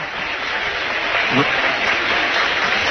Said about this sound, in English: Ovation from this nice crowd. It is a great crowd. Maybe not what you'd expect for Round County, Mason County, but it's a pretty good crowd.